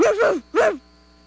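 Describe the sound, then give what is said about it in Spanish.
Two loud barks from a furious bulldog in quick succession, each a harsh, drawn-out growling woof, followed by a quiet background hum. “Ladró furioso el bulldog, se echó encima de la gallina y de un mordisco le arrancó las plumas de la cola.”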